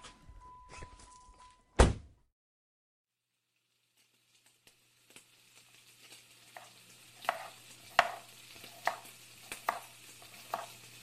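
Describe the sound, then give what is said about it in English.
Steady knife chops on a cutting board as vegetables are chopped for fajitas, a series of sharp thuds at a moderate, uneven rhythm, over a low hum. An earlier clatter and a loud knock come before a short silence. “When you said, do I want fajitas, I didn't realise that meant I'd be chopping up all the veg in the world.”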